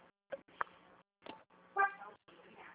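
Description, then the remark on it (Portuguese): Road traffic noise heard from a car driving in traffic and pulling over, in short choppy bursts, with a car horn honking once loudly near the end and a steady low engine hum underneath. “Deixa eu dar encostadinha aqui, que eu tô no trânsito, deixa eu dar encostadinha aqui pra passar”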